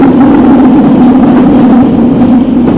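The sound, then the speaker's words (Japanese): A subway train in Nagoya running between stations: a loud, steady rumble with a droning low hum, constant throughout with no pauses and no voices. “本日も地下鉄東の線ご利用いただきましてありがとうございます。”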